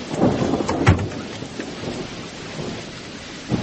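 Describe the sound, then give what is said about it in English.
Steady rainfall hisses throughout, with a low rumble of thunder swelling near the start and again at the end. No one speaks. “Just slip across the street behind that tree and keep an eye on the house. In the rain?”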